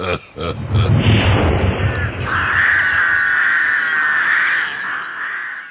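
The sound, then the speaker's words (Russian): A few sharp pops lead into a loud, rushing roar like a fireplace blasting up the chimney, then a long shrill, wavering screech carries on after the blast fades. “А теперь, камин, старый друг, поднатужься, соберись силами так дунь в трубу, чтобы навсегда прогнать этих ворон.”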